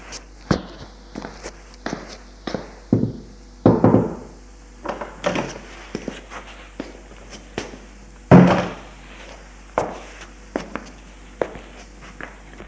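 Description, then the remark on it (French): A living-room door is opened amid a run of irregular footsteps and soft thumps, with two louder, rougher bursts of handle-and-frame noise standing out. No one speaks. “J'allais ouvrir la porte du salon.”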